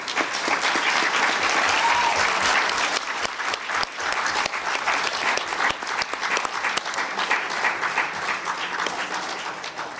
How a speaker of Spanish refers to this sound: Un trabajo bastante pesado que, con las dificultades que hemos llevado al tener reuniones en esta sala, creo que vale un aplauso para los compañeros, amigos y hermanos de DOCIP. Les pido un aplauso, por favor.